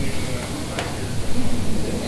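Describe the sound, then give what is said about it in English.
A steady, crackling sizzle like fajitas on a hot plate, continuous for about two seconds, with a brief sharp snap partway through and a low rumbling murmur underneath. “I didn't know they served sizzling fajitas here.”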